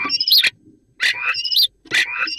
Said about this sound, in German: Ein Strauß. Das ist der Star. Ach, so klingt ein Star. Mhm. Ja, ein Star.